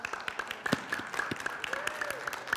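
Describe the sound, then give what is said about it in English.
An audience claps their hands together in a lively, fairly steady burst of applause, with a sustained musical tone and faint murmuring voices underneath. “Can you clap your hands?”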